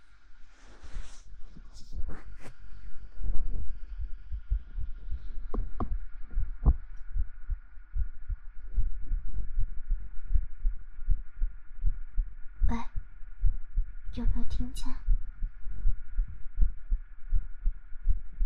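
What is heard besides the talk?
heartbeat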